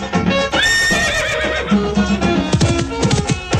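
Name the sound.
horse neighing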